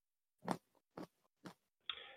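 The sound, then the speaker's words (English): Three sharp, crisp crunches at an even pace as someone bites into a raw carrot, followed by a steadier rustling crunch as the chewing continues. “you're crunching there, …. It sounds crunchy. I got a carrot.”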